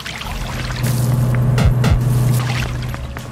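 A video game boat motor hums to life over splashing, churning water, its low steady drone kicking in and briefly warbling as it settles. The sound is fairly loud, with no voices.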